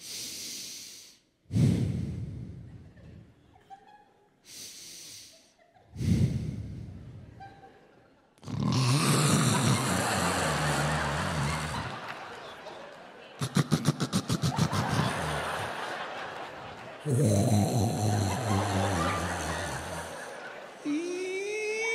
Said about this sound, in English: And I love her to death, but this woman can throw down some snoring. I'm not talking little kitten purring. I'm talking Night of the Walking Dead. This is what I would try to go to sleep to every night to.